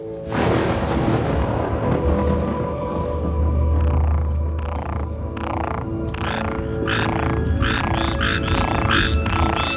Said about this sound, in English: Aren't you glad you weren't there? Stupid little frogs can ruin your whole night's sleep.